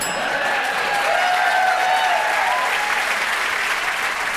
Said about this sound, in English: I believe the Chicago audience applauding the Cubs, not their ineptitude, but yes, the Chicago Cubs have not won a World Series since 1908.